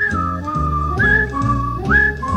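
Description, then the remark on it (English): Someone whistles a bright melody with sliding, swooping notes, carried over a full musical accompaniment. It is steady and clearly audible, with no talking. “Mmm, boy, that's when all Los Angeles will be whistling and singing the same tune.”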